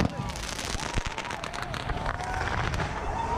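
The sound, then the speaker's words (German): Rapid bangs and crackling of fireworks and firecrackers going off amid a noisy outdoor crowd in Mexico during a New Year bull-fireworks tradition, with sharp loud pops standing out over a constant hiss and hubbub. “Eine der beliebten Neujahrstraditionen, das Stierfeuerwerk.”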